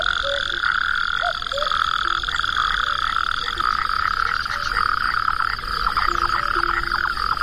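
A dense nighttime chorus of amphibians at nightfall as the light fades: natterjack toads and San Antonio tree frogs, their steady trilling and rapid croaks overlapping continuously, some calls loud, others fainter.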